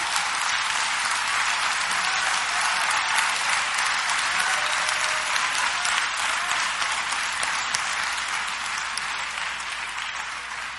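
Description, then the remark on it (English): Sustained audience applause fills the room, a dense, steady wash of many hands clapping at once, loud, holding at an even level for about ten seconds with no talking. “Y'all better clap.”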